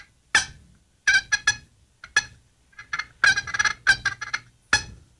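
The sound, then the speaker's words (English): A Woodhaven box call works out a scratchy turkey purr: raspy bursts of notes, some clipped and some rolling together, with short pauses between and no voices. “Box calls are hard to purr on, but I can probably make this. Woodhaven's a really good call. You can make it purr.”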